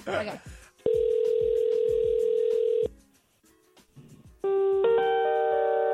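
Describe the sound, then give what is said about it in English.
A phone line plays ringback hold music: a long, steady electronic tone, a brief gap, then a brighter multi-note chime. Faint voices murmur in the background. “Some people's phones have hold music.”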